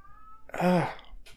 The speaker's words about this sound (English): Oh. The cat's meowing loud.